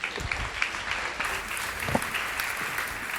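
A crowd applauds steadily, many hands clapping in a dense, continuous patter at an even moderate loudness for the whole stretch, with no voices rising above it.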